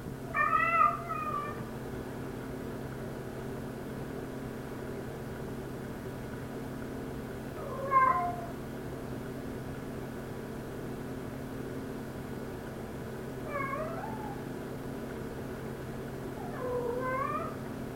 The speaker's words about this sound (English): and we walked out, and 3 or 4 minutes after we left, Finster realized that we left, and he came down the stairs and started meowing after us to let him out. And he gave up finally, and this is what it sounded like.